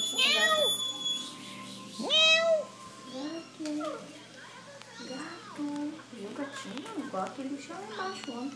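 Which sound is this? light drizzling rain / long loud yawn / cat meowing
cat meowing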